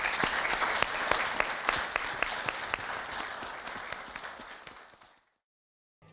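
An audience applauds the panelists at the end of a panel discussion, dense overlapping claps for about five seconds before the clapping fades out and stops abruptly into silence.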